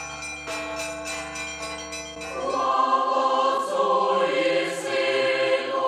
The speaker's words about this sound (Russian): Благовест, вот эта сила, дивный колокол небес, чтоб молитва всех хранила, чистый звон летит окрест.